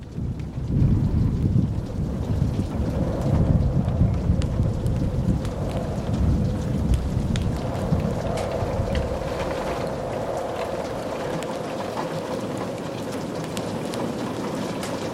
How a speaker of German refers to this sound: Die ersten Regentropfen prasselten gegen die Fenster des Schlosses und der Wind begann zu heulen.